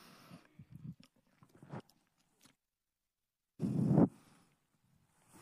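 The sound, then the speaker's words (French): Someone takes a sip of water: soft slurps and small swallows, a short pause, then one louder breathy gulp or exhale. No talking. “Je prends une gorgée d'eau.”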